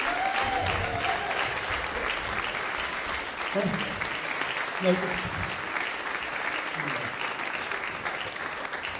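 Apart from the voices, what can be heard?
audience applause and cheering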